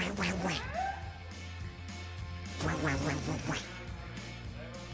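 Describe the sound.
Raspy, nasal duck quacking comes in two or three loud bursts, the first near the start and another cluster midway, with a steady background hum between.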